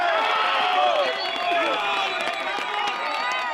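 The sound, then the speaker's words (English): A large crowd cheers and claps after rescue teams retrieve a woman trapped for a day and a half following a 7.4 magnitude earthquake, with many voices shouting over scattered applause. The noise stays loud and holds steady throughout. “Applause rang out today after rescue teams retrieved one woman who had been trapped for a day and a half.”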